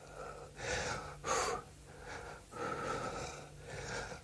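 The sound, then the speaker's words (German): Heavy, rasping panting from Detlef, an overweight dog with a big belly, a steady run of loud wheezy breaths in and out, each a noisy rush of air, with no talking over it. “Der ist schon wieder am Japsen. Ich zeige euch das mal.”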